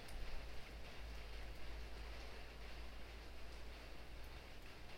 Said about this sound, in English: To breathe that fresh rain smell. Or to open your ears to the pitter-patter, the rain on the rooftop.